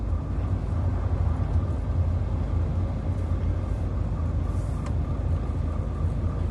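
A steady low rumble of a car in motion at night, heard from inside as a smooth, even road hum with no voices and no sudden sounds.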